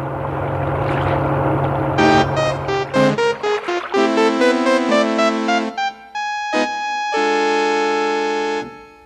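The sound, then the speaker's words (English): A Coast Guard launch motorboat engine drones steadily by a sandbar at first, then a run of loud, choppy tonal blasts and sustained notes takes over, ending with a long held tone before cutting off. “It's a boat. Look, over by the sandbar. It's a Coast Guard launch.”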